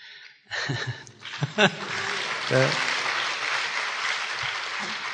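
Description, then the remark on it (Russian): An audience at a talk about Bhakti-shastri study breaks into sustained clapping, by those who have already completed the Bhakti-shastri course: a dense, steady patter of many hands that swells after a brief start and keeps going, with a voice briefly heard as it begins. “Хлопают те, которые прошли уже Бхакти-шастры.”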